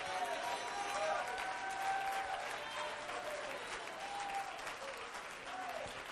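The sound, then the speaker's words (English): A church audience claps steadily and loudly for several seconds, a dense wash of hand claps with raised voices and cheering mixed in throughout. “My God, somebody that wants the glory of God in your life, clap your hands and lift your voice.”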